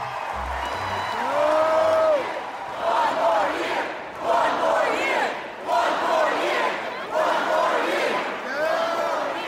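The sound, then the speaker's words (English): A large arena crowd of fans at a campus rally for the Villanova team chants a short phrase in unison as a plea to player Bridges, repeating it in a steady rhythm, loud and booming with many voices blending together and echoing. “When it came time for Bridges, the crowd made one resounding plea.”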